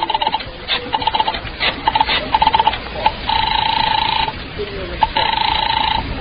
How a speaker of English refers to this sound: I remembered there was a phone someplace too, and I found it and crawled over to it and started dialing my number.